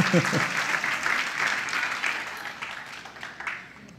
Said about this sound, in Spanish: Brinden un fuerte aplauso a Dios para saber que lo receptó.